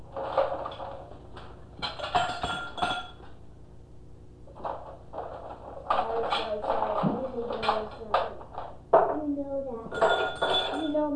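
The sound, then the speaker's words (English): Drinking glasses, including a big water glass, and dishes clink repeatedly on a table, sharp taps scattered in irregular bursts, with voices talking in the background throughout. “Why is it that you know that I'm at least the person who drinks the least water, and I got the big glass. Let's switch with me.”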